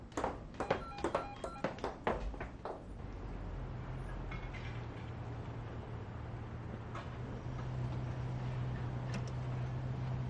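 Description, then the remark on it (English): A telephone inside a house rings in a quick burst of sharp, electronic trills for about three seconds, then stops, leaving a steady low rumble like a vehicle or train running in the background. “Aren't you gonna answer it? You should only answer the phone at your house.”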